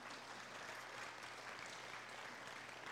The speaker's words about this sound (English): Let's give our deputies a round of applause here today. They're getting called.